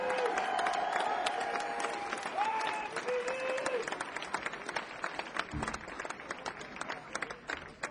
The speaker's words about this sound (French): Et … à la basse, vous pouvez l'applaudir bien fort.